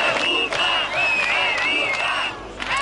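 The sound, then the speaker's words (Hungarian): A crowd of several hundred protesters on Kossuth Square in Kaposvár on a Monday evening, demonstrating against Ferenc Gyurcsány and demanding the government's resignation, shouts and roars continuously while a piercing, steady whistle blows repeatedly over the din, loud throughout. “Beszédek, sípszó és a kormány lemondását követelő táblák a kaposvári Kossuth téren több száz főnyi tömeg gyűlt össze hétfő este.”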